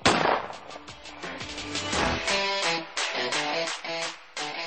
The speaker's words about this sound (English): Are you tired of your cabinets slamming shut? Quiet! Keep it down up there!